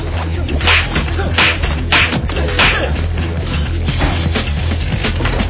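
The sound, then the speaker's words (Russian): A series of loud, sharp whacks lands in a fairly steady rhythm, six or seven blows in quick succession over a constant low hum, as a chocolate hare beats a cabin boy. “Шоколадный заяц юнгу дубасит.”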